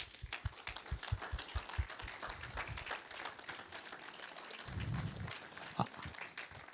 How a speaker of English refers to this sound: So to that congregation, I think our mighty women of God deserve a round of applause.